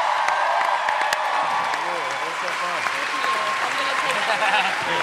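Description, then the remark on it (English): A crowd bursts into loud, sustained applause for Maisie Williams, dense clapping filling the whole stretch, with cheers and whoops rising over it and a voice talking underneath. “Please join me in giving a huge round of applause to Maisie Williams, who crushed it.”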